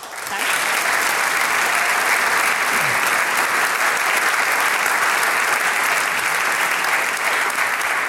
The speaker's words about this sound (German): Aus Bayern angereist haben uns die drei Damen heute mit wunderschönen Stimmen verwöhnt. Großen Applaus für den ….